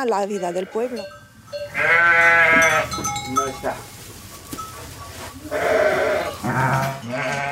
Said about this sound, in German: ist meistens im Stall bei den Lämmern und den Mutterschafen. Eins ist gerade in den Wehen und tut sich schwer.